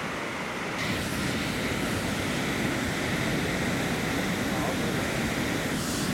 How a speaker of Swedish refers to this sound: Vad är det vi ser här nu? Det är otroliga vattenmassor som bara far omkring här, och det är alldeles vitt för det är bara som stormar på vattnet.